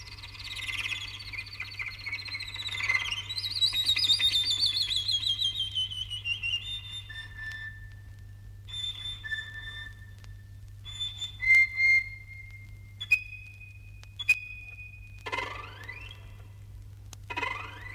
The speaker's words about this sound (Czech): Vjerovatno najljepša ptica koja se može vidjeti na Balkanu, bar što se tiče raznovrsnosti, sklada i živosti boja, svakako je obična pčelarica ili žura, Merops apiaster.